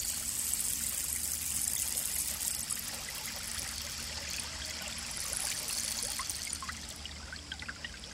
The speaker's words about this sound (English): And in the clearing is a rapidly moving stream of water, a wide stream, with water flowing over rock.